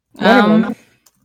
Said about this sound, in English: Oh, I hear a kitty now. I'm sorry. He's wants to go outside my room.